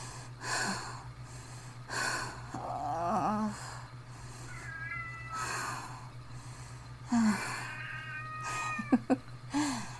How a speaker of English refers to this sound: Ignore my stupid cat who ruins all of my audios lately.